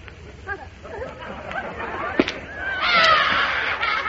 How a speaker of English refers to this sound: Now look, you see that? It burst. Don't stop crying. I'll buy you another balloon.